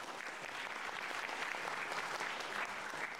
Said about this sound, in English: Thank you very much. That's when you clap. Come on.